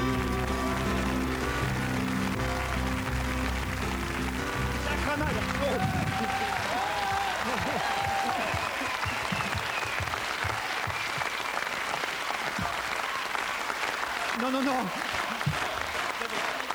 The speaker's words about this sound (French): Alors on demandera à chacun de se lever et en tapant dans les mains et pour bien le remercier, tous ensemble et en cadence, avec beaucoup d'insistance, d'applaudir très très fort Laurent Ruquier.